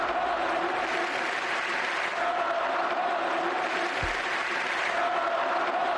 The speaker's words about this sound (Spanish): A gritos de Ansu, Ansu, el Camp Nou coreaba el nombre al ver 10 de un chaval que entró, tocó el balón y lo metió directamente en la portería.